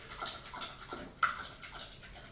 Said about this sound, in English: Loud licking. Didn't know you were going to get some dog ASMR, did you?